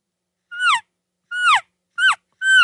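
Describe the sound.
A hunter makes four short, high-pitched chirps imitating an elk calf to communicate with calves. Each is a rich harmonic squeal sliding downward in pitch, spaced about a second apart with silence between and no talking.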